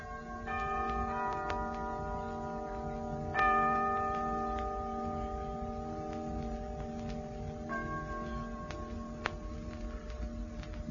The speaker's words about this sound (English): What was that just struck? I don't know. It must be about 8 o'clock by the feel of the sun.